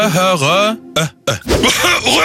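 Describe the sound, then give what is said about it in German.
A voice imitates a rattling, phlegmy cough of the 'rattling construction worker' type: a drawn-out guttural groan, then a short hack and a harsh, gravelly burst of wet coughing that trails off into a throaty rasp. “Typ 3, der rasselnde Bauarbeitertyp, von dem aus Angst vor Auswurf alle schön Abstand halten.”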